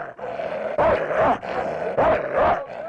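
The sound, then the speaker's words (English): A little Moroccan dog barks in a few quick, rough bursts, roughly four yaps in pairs over a few seconds, with no one talking. “Ruff is a little Moroccan dog.”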